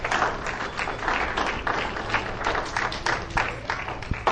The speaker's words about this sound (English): Let's stand to our feet here this morning. Stand to your feet here this morning. Give the Lord a hand clap here this morning. Hallelujah.